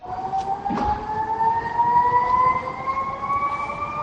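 A factory emergency siren wails continuously, its steady tone slowly climbing in pitch over a constant background rumble, with no voices present; sirens sounded in the morning around factories such as Arcelor in Avilés and Gijón, Química del Nalón in Oviedo, Trubia, and Orovalle in Belmonte.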